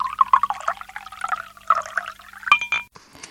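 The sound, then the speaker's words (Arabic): Water gurgles and splashes steadily into a glass for a few seconds, ending with a sharp clink of glass and a brief bright ring. No one speaks. “وهذا قلاص المي.”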